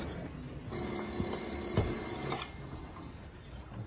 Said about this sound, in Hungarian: Mérgesen néz az imaszőnyegen csengő telefonra.